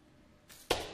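A soft rushing whoosh gives way to a single sharp arrow strike on a target during an archery competition final, a loud thwack that rings briefly and fades. No one speaks.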